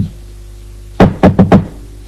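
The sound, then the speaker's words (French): Four sharp knocks on a bedroom door, the first two evenly spaced, then the last two quicker, loud and alone after a second of quiet with no voices. “Alors il décide d'aller frapper à la porte de son, la chambre de son père.”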